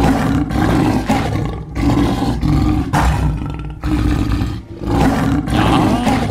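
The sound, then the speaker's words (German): A leopard roars in a loud series of harsh, rasping calls, about five in a steady sawing rhythm with brief gaps between, and no one speaks. “Ein Leopard.”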